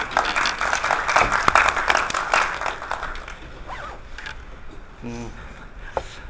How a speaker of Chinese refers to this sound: 今天我们讲座的内容是巴黎公社的精神遗产，纪念巴黎公社140周年，下面就让我们以热烈的掌声有请沈老师。